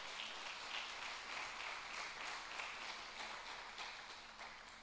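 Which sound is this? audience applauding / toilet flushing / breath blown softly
audience applauding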